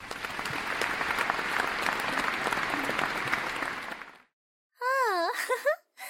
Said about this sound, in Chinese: 大家为校长顽强不屈的精神鼓掌。